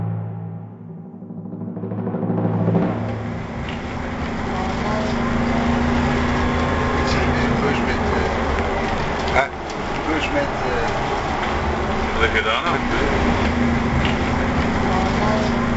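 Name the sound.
bus engine running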